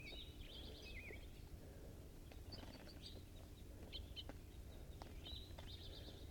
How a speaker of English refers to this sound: These are the birds in the cage, fighting.